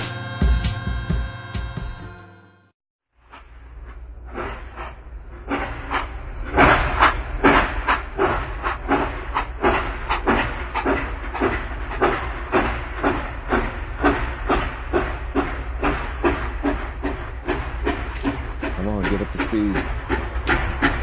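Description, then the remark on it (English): A steam locomotive train hisses loudly and chuffs in a steady, rhythmic beat, following a brief different sound and a short moment of near silence at the start. “That's obviously a steam engine.”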